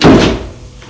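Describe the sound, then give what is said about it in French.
A car door opens with one solid, low thunk that hits loudly at once and then fades away over about a second, with no voices. “Tout à coup, il a entendu une portière d'une voiture qui s'est ouverte.”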